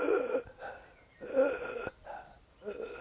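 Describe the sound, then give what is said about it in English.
Heavy, labored breathing performed by a voice to show breathing that becomes very hard and stuck: three strained, wheezy breath cycles rising and falling in a slow rhythm, fairly quiet, no words. “Very hard to breathe. Stuck.”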